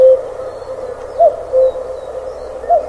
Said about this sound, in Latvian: un jau atkal šur un tur Latvijā skan dzeguzes dziesma.